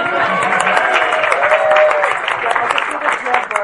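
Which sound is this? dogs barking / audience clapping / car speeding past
audience clapping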